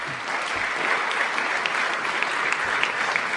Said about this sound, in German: Und ihr dürft gleich nochmal für alle richtig klatschen.